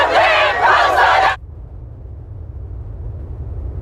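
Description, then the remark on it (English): A loud burst of crowd cheering and clapping outside the High Court, after it ruled that proscribing Palestine Action as a terror group was unlawful, lasts just over a second, then cuts off abruptly, leaving a low, steady background rumble. “It's after the High Court ruled prescribing it as a terror group was unlawful, prompting cheers and claps outside.”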